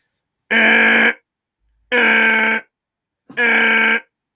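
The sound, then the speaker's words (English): A harsh, buzzing klaxon alarm blares three times in steady bursts, each lasting under a second with short silent gaps between, loud and raspy with no voices present. “I did need to sound the klaxon.”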